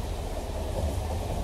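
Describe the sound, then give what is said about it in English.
A video game train rumbles past with a heavy, steady low drone and broad hiss, swelling slightly louder toward the end. No voices are heard. “And if you miss the train, you lose a life.”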